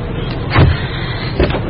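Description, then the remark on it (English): Two short mechanical clunks, like a truck's door locks releasing, sound about a second apart over a low, steady vehicle hum. Both are moderately loud, and no one speaks. “Unlock it, please.”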